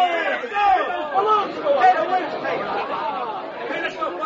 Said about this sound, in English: The crowd is growing wild.